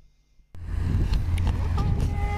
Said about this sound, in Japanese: 海の音がするね、波の音がするね。